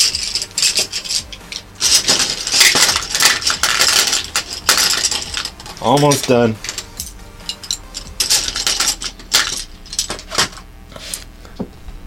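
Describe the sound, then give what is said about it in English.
A busy clatter of many colored pencils from all over a desk being dropped into a can, with sharp irregular clicks and rattles over several seconds, and a brief spoken remark partway through. “you get to hear me put away all these colored pencils that are laying all over my desk.”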